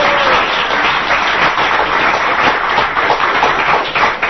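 Sustained applause from an audience at a Krishna-consciousness gathering in Hamburg welcoming a speaker, a dense, steady wash of many hands clapping at once, loud and unbroken for several seconds with no voices over it.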